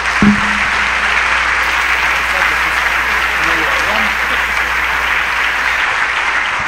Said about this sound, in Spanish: Primero, me permite, me voy a quitar el saco con su permiso, mientras usted le da un aplauso al Señor y le vamos a entrar a la palabra.